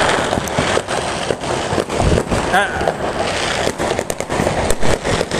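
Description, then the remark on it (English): New Year's fireworks burst and crackle in a dense, continuous barrage of sharp, loud pops and bangs, with a brief whistling rise partway through. “And you can hear the fireworks splashing around me.”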